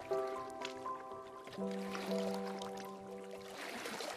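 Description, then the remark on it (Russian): Water splashes and sloshes steadily as a woman swims, with a soft sustained musical tone playing underneath throughout. “Ей вдруг захотелось искупаться. Она зашла в воду и поплыла.”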